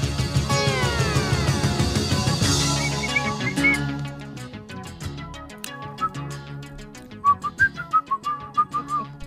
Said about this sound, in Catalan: Sí. Sempre m'ha agradat molt xiular.